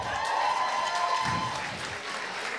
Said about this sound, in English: If you're a good woman, you done sacrificed. You really got your shit together, right? You meant your claps just now.